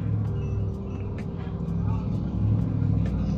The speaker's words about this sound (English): Another loud vehicle. Henceforth, I'm probably going to go back to recording at night, or I'm going to find a location where I know there's not a lot of traffic, because there shouldn't be a lot of traffic here, but there is.